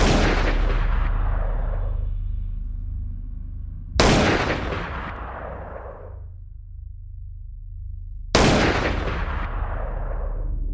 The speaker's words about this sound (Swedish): Men plötsligt ekar tre skott över Daily Plaza.